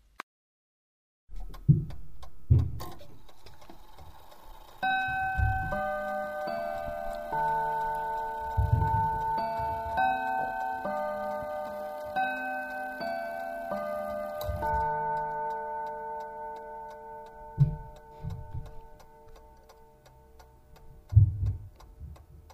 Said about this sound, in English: Here we have the quarter to the hour chime.